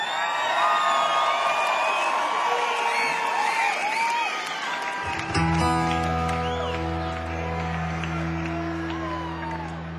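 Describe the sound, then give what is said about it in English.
A concert crowd cheers loudly, with whoops and applause throughout; about halfway through, a steady low musical drone kicks in underneath while the cheering carries on. “Thank you all for being such an amazing crowd.”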